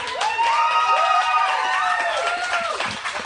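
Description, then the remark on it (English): A thin smattering of clapping from a crowd in Texas, steady for about three seconds with a few voices whooping over it before it tapers off. “It's a sparse applause for that.”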